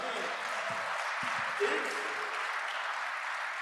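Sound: round of applause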